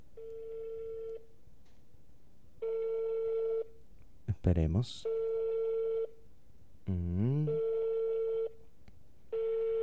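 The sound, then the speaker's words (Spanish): A steady, buzzy telephone ringback tone on a call to a person in Cuba repeats in regular bursts of about a second, each followed by a pause, with no answer. A man speaks briefly during the gaps. “Sigue dando timbre. Nadie lo coge.”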